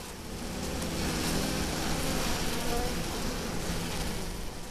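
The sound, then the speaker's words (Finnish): A dense, steady hum of honeybees buzzing around their hives, a continuous swarm drone filling the scene at moderate level with no break for nearly five seconds. “Vieläkö se säväyttää, kun tällä keväällä tulee katselemaan, että mitäs mehiläisille kuuluu?”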